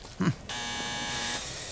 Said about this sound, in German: Ach, wieder die falsche Klingel.